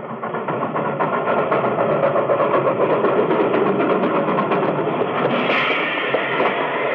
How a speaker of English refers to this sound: For starters, let's take a ride on the Calico and Ghost Town Railway. This is a real old-time affair, complete with a big black engine, narrow-gauge rails, orange cars with hardback seats, filled with happy tourists.